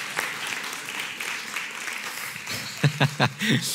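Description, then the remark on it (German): Steady crowd applause, a dense crackle of many hands clapping, with a few short vocal whoops or cheers rising above it toward the end. “Ich mag es, wenn man so Applaus macht. Ist das so, lass uns mal schön klatschen.”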